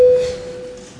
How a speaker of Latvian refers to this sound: Paldies, lūdzu zvanu.